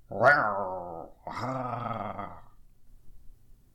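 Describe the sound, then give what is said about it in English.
A human voice imitates a lion's roar in two loud, rasping bursts, the first rising sharply and the second held longer before trailing off into quiet. “In order to capture the perfect lion roar, I have recorded several lion noises that I figured I should share at the end of the text.”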